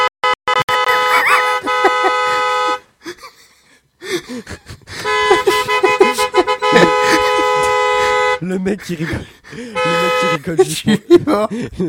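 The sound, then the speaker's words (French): Car horns blare in three long, loud blasts with brief gaps between them, steady, with a bit of murmuring noise in the pauses. “Le mec qui rigole juste pour des klaxons quand même.”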